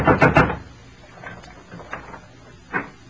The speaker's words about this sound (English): There was one answer to that, so I went out in the street and up the steps of the house next door and knocked. Good and loud.